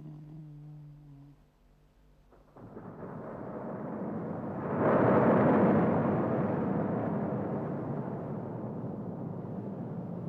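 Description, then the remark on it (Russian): Thunder in a night thunderstorm high in the mountains: a low steady tone fades out, then a broad rumbling roar swells up and surges into a loud peak of thunder that rolls on heavily without dying away, with no voices. “Началась гроза. Вы знаете, как страшно бушуют молния и гром в горах ночью, когда две грозы идут войной друг на друга.”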